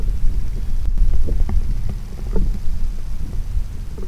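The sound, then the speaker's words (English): A hydrothermal vent recorded underwater: a steady, gentle low rumble with a rushing, waterfall-like wash, dotted with faint scattered pops. No one speaks. “let's listen to a hydrothermal vent.”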